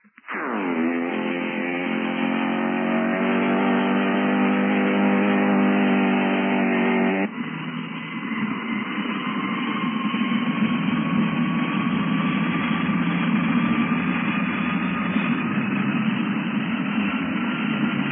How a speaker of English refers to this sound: And now, here is the weird, screaming sound of those two jet motors as the ground crews prepare to start them up.